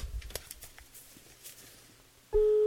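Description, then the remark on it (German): Soft handling clicks and taps give way to a loud, steady telephone ringing tone that starts abruptly near the end, clear as if heard through the handset on an outgoing call placed live on radio. “Und ich hoffe, jetzt kommt jemand ans Telefon.”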